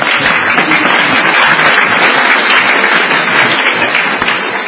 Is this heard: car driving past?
no